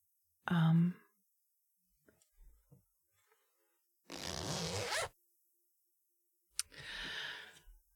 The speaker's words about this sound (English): Here, let me help you with the zipper.